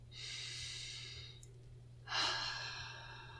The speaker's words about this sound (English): I invite you to take a deep breath.